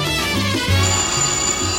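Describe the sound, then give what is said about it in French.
A telephone rings with a loud electronic ringtone, steady tonal notes and a thin high whistle layered over a low hum, filling the short moment without any voices. “Le téléphone.”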